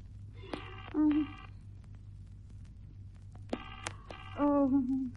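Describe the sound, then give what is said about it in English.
Two bursts of a telephone line ringing on an operator-placed call to a Murray Hill number that goes unanswered, heard through a receiver, separated by a pause of about two seconds, over a steady low electrical hum. “Ringing Murray Hill”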